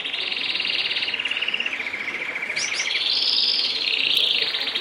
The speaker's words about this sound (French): Et plus précisément, des canaris. Et alors l'anecdote, c'est dans Playlist de Luxe. C'est les canaris de mon grand-père, ouais. C'est-à-dire que mon grand-père, dans son bungalow en Jordanie, avait plein de cages de canaris.